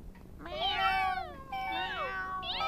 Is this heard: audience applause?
no